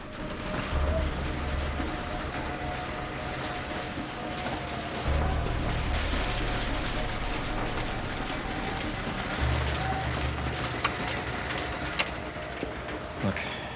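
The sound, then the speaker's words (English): A metal rolling shutter door at a loading dock clatters open, a continuous rattling with low rumbling surges as the slats roll up in several heaves. “goes to a loading dock and opens a shutter door, letting in the rest of the team.”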